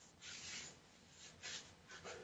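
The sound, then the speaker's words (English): Soft, papery wiping with toilet paper after a large bowel movement, heard as three brief rasping strokes spaced about a second apart, fairly quiet, with no voices. “Can you all hear me wiping?”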